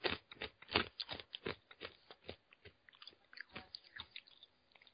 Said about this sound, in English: Right, bear with me, I've got to crunch my sweet.